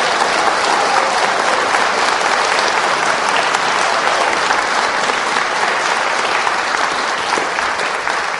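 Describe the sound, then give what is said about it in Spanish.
An audience applauds the Father in heaven steadily, a dense, continuous wash of clapping at an even loudness for the whole stretch, with no talking over it. “Dele el aplauso al papá del cielo.”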